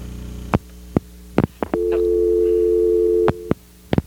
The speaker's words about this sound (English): Excuse me, just a minute, please. There's other lines ringing here.